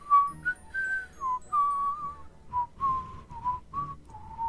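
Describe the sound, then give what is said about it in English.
A man softly whistles a meandering tune to himself while cutting and chopping at a rough handle on a stake, with short melodic phrases rising and falling and brief breaths between them. The whistling is gentle, with no talking. “He went on cutting and chopping at a rude handle he had fashioned to the stake, whistling softly to himself all the while.”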